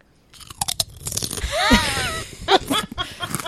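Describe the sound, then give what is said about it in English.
Loud crunching and chewing of potato chips, with irregular crisp bursts of bites and munching over a few seconds, plus a brief squeaky tonal sweep midway. “I saved some of my chips.”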